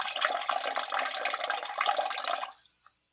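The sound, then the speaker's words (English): A steady stream of liquid from a peeing sound effect splashes continuously for about two and a half seconds, then tapers off into a few faint trailing drips before silence. “Drip, drip, drip, drip.”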